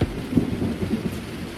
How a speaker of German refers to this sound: Jetzt sitze ich unter meinem Terrassendach. Es regnet. Und es gewittert.